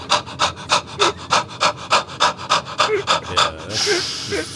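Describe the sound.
A person imitates heavy, rhythmic breathing up close: about a dozen loud, raspy pants in a steady rhythm, ending in a longer, hissing exhale.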